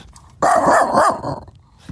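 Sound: large dog barking loudly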